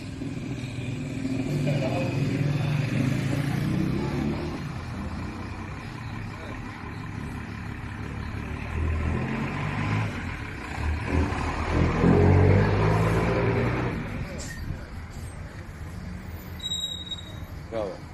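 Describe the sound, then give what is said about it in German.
An old bus engine chugs steadily with a low, rumbling drone that swells louder around the middle, continuous for the whole stretch. “Das nächste ist ein Video, da könnt ihr mal hören, wie der Bus tuckert, ja.”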